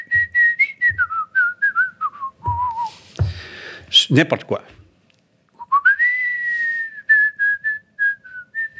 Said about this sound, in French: Tous les matins, je sifflais quelque chose en entrant au travail.